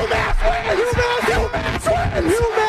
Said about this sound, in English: UMass wins the game! 61-59! This crowd is going nuts! They rush the floor!